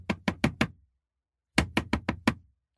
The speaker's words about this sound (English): When Peter got to that house, he knocked on the door.